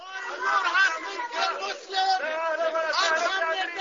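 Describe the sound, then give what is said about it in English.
A crowd of Palestinian protesters shouting and heckling at First Lady Laura Bush at the Dome of the Rock in Jerusalem's Old City, many raised voices overlapping in a steady, agitated clamor that stays loud for the whole few seconds. “How dare you come in here, shouted Palestinian hecklers.”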